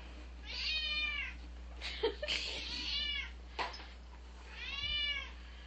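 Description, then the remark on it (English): A cat meows three times with drawn-out, wavering cries spaced a second or two apart over a low steady hum, with a few soft clicks and rustles between calls. “Wow, you're very verbal tonight, aren't you, cat?”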